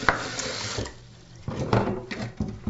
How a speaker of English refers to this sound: I'm going to put on some water to boil for the corn. I'm just filling up a big pot here, but since I'm only boiling 2 ears of corn tonight, I'm not putting on a ton of water. So just putting some water in here and throwing in a good amount of salt.